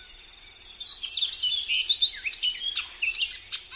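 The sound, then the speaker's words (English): A bunting sings from an elevated perch at the forest edge, a bright, rapid series of high, sweet chirps and warbled phrases, continuous, with no voices present. “Female buntings know what they like, and arriving from Mexico and Central America, they search for just such an ecotone.”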